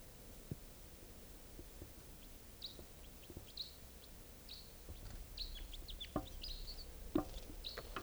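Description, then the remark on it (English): Wild birds perched in a tall Douglas fir above a net area call with a scattered series of short, high-pitched chirps and squeaks, fairly soft, over a low rumbling background with occasional dull knocks; no one speaks. “This is one of the birds.”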